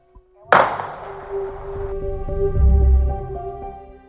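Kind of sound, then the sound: sound effect, gunshot sound effect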